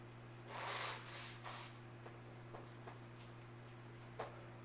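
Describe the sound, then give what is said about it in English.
A short, breathy nose blow near the start, a forceful burst of air followed by a smaller puff, then a few faint clicks over a steady low hum, with no talking. “You'll have to excuse me, I've got to blow my nose here.”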